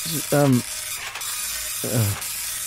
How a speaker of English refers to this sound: I'll just print it off. I'm going to spit out the results now. Yeah. It's got a slow printer as well. Howard, it's... It sounds like an Amstrad. Is that an Amstrad? It sounds like an Amstrad.